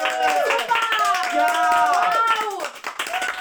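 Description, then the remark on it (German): A crowd cheers and claps loudly after a flute melody is played, many voices whooping and calling out over a dense, steady patter of applause that fills the whole stretch without a pause. “Nachdem sie fertig gespielt hat, fangen alle an, laut zu jubeln und zu klatschen.”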